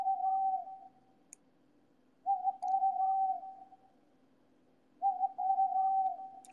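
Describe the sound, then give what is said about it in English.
An alarm sounds in three steady, mid-pitched electronic tone bursts, each lasting over a second, with short pauses between them. The tone is clear and moderately loud, and no one speaks. “your alarm is going.”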